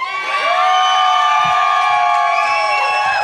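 An audience cheers loudly for a contestant, a dense wall of shouting and high-pitched whooping voices that holds steady and strong for about three seconds.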